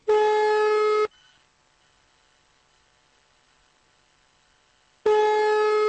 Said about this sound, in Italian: Ah, questo è un bellissimo lungo squillo.